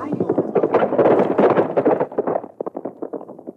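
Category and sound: animal, horse hooves galloping away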